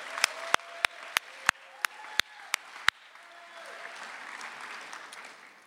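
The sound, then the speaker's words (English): A crowd breaks into applause, led by about ten sharp, loud, evenly spaced claps in the first few seconds, then settling into a softer, steady wash of many hands clapping. “First of all, let's have a couple rounds of applause.”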